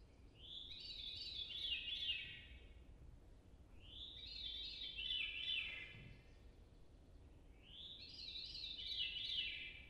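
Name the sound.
veery song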